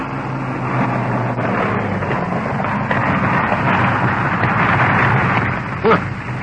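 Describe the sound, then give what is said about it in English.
A piston-engine aircraft drones steadily as it comes in to land, a broad rumbling roar over a low humming tone, with a brief louder thump near the end. “Hold it. Piston engines. There it is.”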